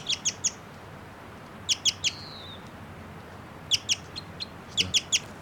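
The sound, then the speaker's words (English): A bird sings a song phrase of bright, high-pitched chirps in quick clusters of two or three, repeated several times, with a thin gliding whistle between, over faint steady background hiss. “That bird I think might be a male. And it's giving some song now. It's a song phrase.”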